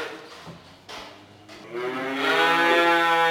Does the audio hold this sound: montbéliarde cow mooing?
yes